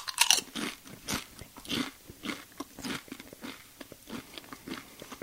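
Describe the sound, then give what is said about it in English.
A sharp crunch as someone bites into a tortilla chip topped with a copious quantity of hot sauce, followed by several seconds of steady, crackly chewing with repeated crisp bursts, and no talking. “Well, I've got a copious quantity here on this chip. All right, so I'm gonna crunch in here.”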